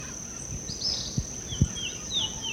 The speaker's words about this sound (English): There's blackbeak parrots. Yeah. Four of them overhead. Five, six, seven.